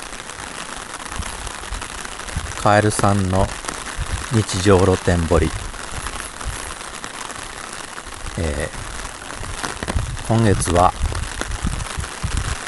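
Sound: rain falling outdoors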